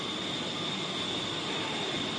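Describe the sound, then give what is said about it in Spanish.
A steady, continuous roar of military aircraft passing overhead in Madrid, some of about 30 aircraft of the Spanish Air Force, Army, Navy and Guardia Civil, dense and unbroken for a couple of seconds, with a thin high whine riding on top and no voices. “Y hoy que no cunda el pánico si estás por Madrid, si estás trabajando, si es que vives en Madrid y estás escuchando a estas horas el ruido de unos aviones.”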